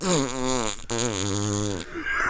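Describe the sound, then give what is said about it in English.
A person vocally imitates a loud, sustained fart, a buzzing raspy blurt lasting about two seconds with a brief break in the middle. “And so if they fart when they're doing it, it is such a loud like.”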